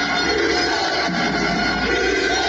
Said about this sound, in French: Ça vous parle ? C'est l'ambiance du stade des Mégirales. Donc, vous entendez les USAP derrière, USAP, c'est voilà.